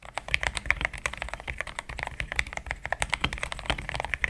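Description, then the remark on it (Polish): Rapid, steady typing on a real computer keyboard, a dense stream of crisp clicking keystrokes with no one speaking. “Mam tu teraz tę klawiaturę i ten dźwięk mogę wam zaprezentować, jak on brzmi.”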